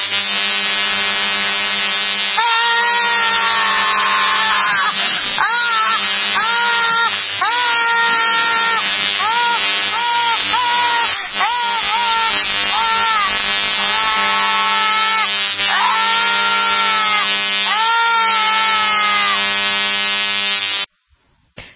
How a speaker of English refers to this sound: I guarantee some of you have not put on your mosquito spray, and those buzzing sounds have been the mosquitoes that have been attacking your sweet flesh.